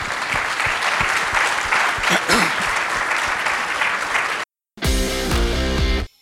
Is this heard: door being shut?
no